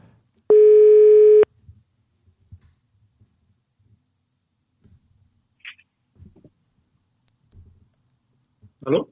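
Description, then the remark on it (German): A single loud, steady telephone ringback tone sounds for about a second while a call is being placed, then the line goes quiet apart from faint clicks and rustles, with a brief voice-like sound at the very end. “Normalerweise tutet es doch, wenn du willst. Und jetzt tutet es tatsächlich.”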